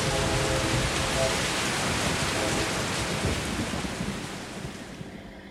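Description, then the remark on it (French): A heavy rain shower pours down in a steady, dense hiss, loud throughout, easing slightly toward the end with no voices present. “Chacun attend patiemment la fin de l'averse pour attraper le cours des choses, reprendre son chemin, reprendre son travail, reprendre la route, reprendre ce qu'on a laissé de côté pour admirer la pluie.”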